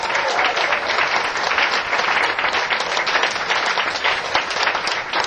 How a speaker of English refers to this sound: clap some more.